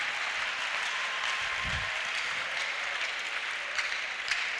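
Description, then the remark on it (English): A crowd claps steadily, a dense, continuous wash of many hands without a clear beat, holding at an even loudness throughout with no voices standing out. “Clap our men.”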